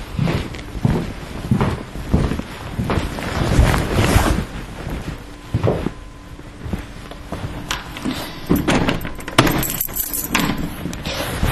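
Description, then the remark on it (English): Keys jangle and click as the front door of a bungalow home is locked, a run of sharp metallic rattles and clunks over a steady windy rumble, with no voices. “So lock my front door.”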